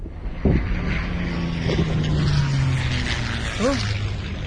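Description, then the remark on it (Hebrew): A German warplane's engine drones steadily with a low, humming rumble over a rushing, wind-like roar, its pitch sliding slightly lower, while a short voice cuts in near the end. “אבא, הנה שוב מטוס גרמני.”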